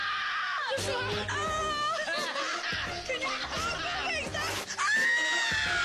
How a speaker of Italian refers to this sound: Urla belluine di Rosa Mendes.